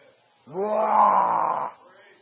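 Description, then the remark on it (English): A man imitates a lion's roar with one loud, sustained, growling vocal burst lasting just over a second, with quiet background before and after. “And they roar like a lion, king of the beasts.”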